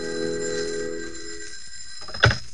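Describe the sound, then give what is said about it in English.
An old-fashioned telephone bell rings in an office just after lunch with a sustained metallic jangle, then fades out before a sharp click, like a receiver being picked up. No one speaks. “I'd propped the latest edition just south of the bulge that marked the last resting place of a brace of breaded pork chops when the phone rang.”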